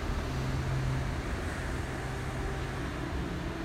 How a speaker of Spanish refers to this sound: Y si te ayuda el sonido del océano de fondo,